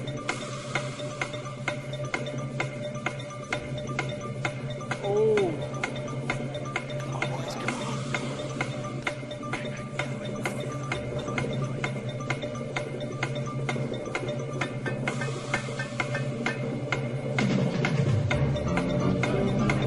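A 30-second countdown clock ticks steadily throughout as players race to find a Bible verse, evenly spaced clicks at a brisk pace, fairly loud, over a low continuous background hum with no one speaking.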